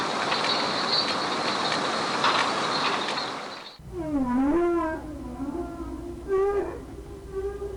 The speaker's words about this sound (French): Et bien sûr, là, c'est notre protégé. Vous reconnaissez le chant de la baleine? Que peut-elle faire contre tout ce que nous venons d'entendre? Là, elle appelle ses petits.